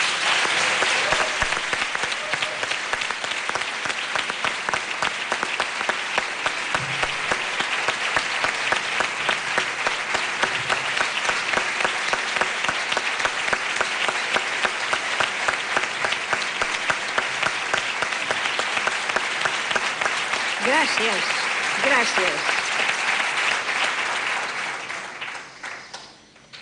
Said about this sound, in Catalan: Els nostres companys que tenim a l'exili o el que estan tancats a les presons espanyoles. Per ells, un aplaudiment.